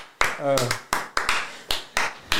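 Scattered applause from a small group, about nine loud, sharp claps at an uneven pace, with a brief high vocal whoop near the start.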